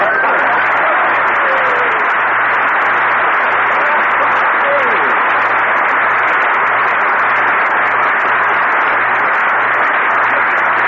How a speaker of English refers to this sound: Dude, everybody on the street is applauding. They all like Lucky Strike.